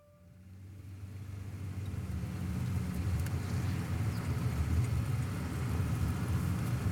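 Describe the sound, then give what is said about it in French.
Steady low rumble of a car interior while stuck in traffic, the engine idling and whirring with faint road noise from the traffic, fading in over the first second and holding constant with no talking. “Je suis dans ma voiture, bloqué dans le trafic”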